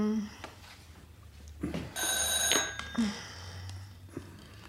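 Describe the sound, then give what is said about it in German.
An old-style telephone bell rings in a short, bright metallic burst, fairly loud, with voices and background noise around it. “Was ist das? Das Telefon”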